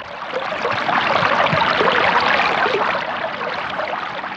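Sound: splashing water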